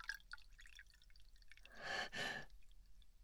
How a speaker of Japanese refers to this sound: お嬢様、お継ぎいたしますね。私もこのワインをいただいてもよろしいでしょうか。ありがとうございます。そのお嬢様に継いでいただけるなんて。